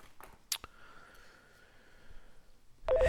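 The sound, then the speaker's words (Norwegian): A phone's ringing tone: one long, steady mid-pitched hum held for under two seconds, preceded by a couple of sharp clicks and followed by a sudden burst of rustling noise. “Faen, han er jævla ringetone, at jeg er så dritlenge.”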